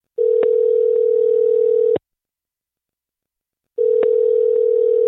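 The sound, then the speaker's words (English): A telephone ringback tone, the steady purring hum heard while a call connects, rings twice, each about two seconds long with a long silent pause between, clear and alone, from a recorded phone call being played back. “I want to play the phone call that happened and then we can react to it after.”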